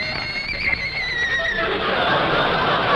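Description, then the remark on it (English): A horse whinnies in a loud, high, wavering call that falls away over about a second and a half, then an audience erupts in broad laughter and noise. “He even brought his horse.”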